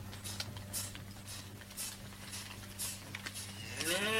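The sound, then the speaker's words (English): Cattle shuffle and clatter as the herd is let out of the holding yard, against a steady low mechanical hum, and one cow starts a loud, drawn-out moo right at the end. No one speaks. “Taking the cows back for a last time.”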